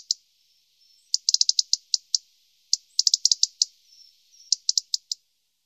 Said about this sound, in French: Rouge-gorge familier, 13 cm. Familier, comme son nom l'indique, le rouge-gorge s'approche parfois au point de sembler apprivoisé, voletant d'un perchoir bas à l'autre et agitant constamment ses ailes et sa queue.